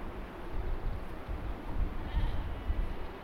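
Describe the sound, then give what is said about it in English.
Sheep bleat outdoors beside a farm track along a dry creek in a widening valley, the calls partly blurred by steady rumbling wind noise across the whole moment. “Bloody sheep everywhere.”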